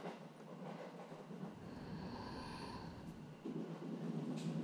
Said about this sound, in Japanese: ガタンゴトン、ガタンゴトン。